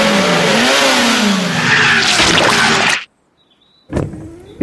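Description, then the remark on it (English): Miss Rabbit's truck engine revs loudly and strains for about three seconds while trying to pull a bus stuck in the mud, then cuts out abruptly; after a short silence it roars briefly again. No one speaks. “Is your truck strong enough?”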